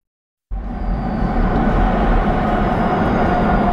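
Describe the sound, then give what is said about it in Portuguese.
A Porto metro train in Portugal rumbles steadily along its rails, starting abruptly after a brief silence and holding a loud, continuous low roar with a faint high whine above it. “A viagem até 2002 ainda é longa, por isso vamos aproveitar e apanhar o novíssimo metro do Porto.”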